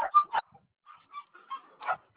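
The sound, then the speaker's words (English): Dogs bark in a quick burst of two or three sharp yaps, then quieter yelps and whines follow, ending with one more bark, with no talking. “I'm sorry, I have crazy dogs.”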